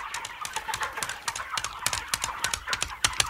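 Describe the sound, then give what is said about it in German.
A cow named Bertha walks leisurely along a path toward a farm, her hooves clip-clopping in a quick, steady rhythm of sharp knocks, fairly loud, against a busy outdoor background with possible bird chirps. “Gemütlich ging die Kuh Bertha dann den Weg entlang Richtung Bauernhof.”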